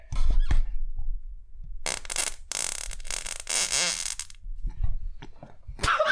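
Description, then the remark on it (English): A loud, drawn-out raspy fart of a couple of seconds with squeaky, sputtering edges, preceded by low thumps and followed by a brief sharp burst near the end. No talking. “There's fart air and there's air air.”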